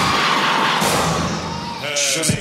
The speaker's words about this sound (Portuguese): Agora eu quero ouvir o grito da mulher que é independente e acha que os direitos são iguais.